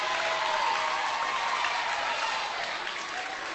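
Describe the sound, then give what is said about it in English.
A large crowd at a match applauds as the St. Vincent team comes out, a steady, dense wash of clapping that holds loud throughout and eases slightly toward the end, with no voices speaking over it. “And now here comes St. Vincent, and the crowd responds thusly.”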